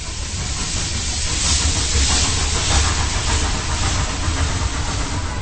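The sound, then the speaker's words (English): A steam train being shunted up and down the rails at Volary in the soft evening light hisses and rumbles, a steady, loud wash of escaping steam over a low mechanical chug, with no voices. “From České Velenice, it's on past České Budějovice, Černý Kříž and Volary, where a steam train is being shunted up and down the rails in the soft evening light.”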